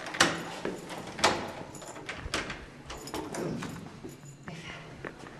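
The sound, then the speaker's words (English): Footsteps of a woman climb five flights of stairs in an apartment building with no elevator in Iran, in a slow, uneven rhythm, each step a sharp knock with a faint echo. A soft background hum persists throughout, with no voices. “She climbs another flight and another, five in all, before we reach her door.”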